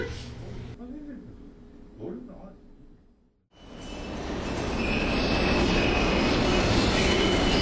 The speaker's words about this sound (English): I head toward ZPT. The train should arrive in under 30 seconds. And of course, it does.